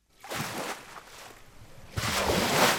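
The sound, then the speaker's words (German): Powerful waves crash and wash against a sand dune inside a huge factory hall during a wave experiment by scientists of the Technical University of Braunschweig, in two surging bursts, a broad roaring hiss swelling, easing off, then rising again louder, with no voices. “In einer riesigen Werkshalle nagen kräftige Wellen an der Düne Marlins Knoll.”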